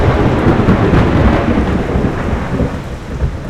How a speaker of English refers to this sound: And we have the brand new advisory. A severe thunderstorm warning has been issued for our area.